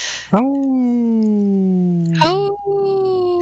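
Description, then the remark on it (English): A human voice imitates a wolf howl: a loud, sustained, slowly falling tone that rises sharply and slides down again, briefly breaks, then settles into a steady higher note, with no words. “I think it was the loneliest wolf howl I've ever heard.”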